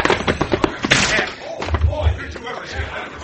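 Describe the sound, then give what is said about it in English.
A metal tray, swung at a man's head in a fight, misses and slams hard onto a table in one loud, sharp crash, with a few quicker knocks before it and low rumbling thuds after, amid muffled scuffling and voices. “He missed you hit the table”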